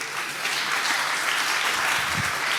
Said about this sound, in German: aber auch nochmal dafür einen Applaus.